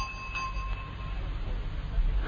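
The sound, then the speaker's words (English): A single bell rings out, its bright metallic tone lingering and slowly fading over about a second above a steady low background rumble. “So, Watchful, the porter, rang the bell.”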